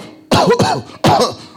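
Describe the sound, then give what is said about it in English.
A voice imitates a sick goat coughing as it is being brought to be offered to God: three loud, raspy bursts, two in quick succession and then one more after a short pause, with a rough, bleat-like tone. “As someone is bringing a goat to be offered, the goat is coughing.”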